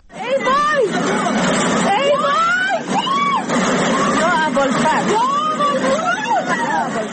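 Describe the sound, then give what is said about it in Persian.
Residents of a house in the Sayyedi neighborhood of Mashhad, Khorasan Razavi province, shout and cry out in alarm from a window as floodwater after heavy rain sweeps cars away, voices rising and overlapping, over a steady background rush of water, loud and continuous throughout. “صدای وحشت ساکنان خانه‌ای در محله سیدی مشهد که از پنجره ماشین‌هایی را که سیل می‌برد تماشا می‌کنند.”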